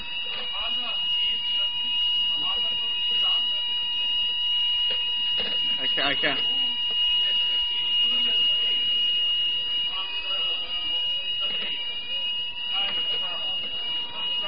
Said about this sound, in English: Brother, it's a bit difficult to hear you with this alarm going on.